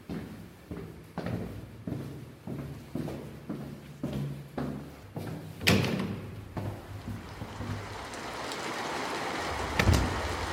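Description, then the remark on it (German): Steady rain hisses outdoors on a wet summer morning, taking over after a run of regular thumping steps and a sharp knock; the downpour stays even and moderately loud, with one more thud near the end. “Die Menschen sind bei der Arbeit oder haben sich an diesem nassen Sommermorgen in ihren Wohnungen verkrochen.”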